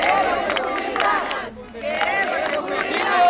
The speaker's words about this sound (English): A crowd of local residents in Tijuana's affluent beachfront neighborhood protested the caravan, chanting, "We want security and don't let any more come."